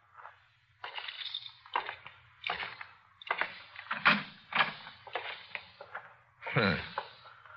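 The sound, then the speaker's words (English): A door is opened: a string of rattling, scraping clicks from the latch and handle, ending in a longer creaking swing over a faint low hum, with no one speaking. “Open this door.”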